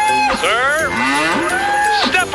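A cow moos loudly, a long drawn-out bellow with a rising then falling pitch, followed by a second shorter moo near the end.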